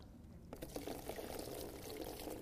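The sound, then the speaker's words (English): Liquid is poured steadily into a container, a continuous splashing, gurgling stream that starts abruptly and carries on at moderate volume, with no talking over it. “Okay, let's keep pouring it.”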